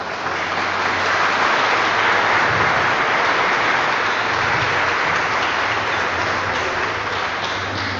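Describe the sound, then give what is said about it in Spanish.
A crowd applauds a historian present at the event, steadily for the whole stretch, a dense, even wash of many hands clapping at a consistent loudness, with no voices breaking through. “que pide un fuerte aplauso para él.”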